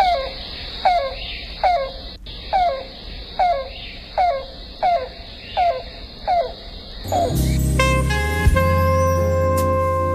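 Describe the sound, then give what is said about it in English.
A yellow-billed cuckoo gives a steady series of about ten soft, hollow cooing notes, evenly spaced, before a louder, sustained wash of other sound takes over at the end. “And both males and females make a soft, repeated cooing sound.”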